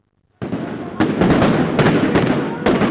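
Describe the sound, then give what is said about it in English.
Several loud explosions go off in quick succession, sharp blasts a second or so apart, over a constant roar of crowd noise and shouting at a street protest of thousands outside the Parliament building in Athens, Greece, as the protest turns violent. “The sounds of explosions filled the Athens air as an earlier peaceful protest quickly turned violent.”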